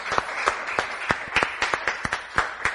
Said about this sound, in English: Praise the Lord. Give the Lord a cheer. Thank you, Jesus.